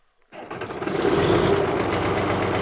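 A big, green, 40-year-old diesel farm tractor in California's San Joaquin Valley is started by a third-generation farmer; it cranks and catches after a brief silence, then settles into a loud, steady, rumbling chug, with no one talking.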